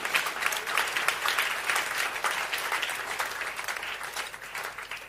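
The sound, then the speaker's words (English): An audience claps for Jesus during a sermon, a dense, continuous wash of many hands for several seconds with no voices rising above it and a fairly even loudness throughout. “Clap for Jesus in book.”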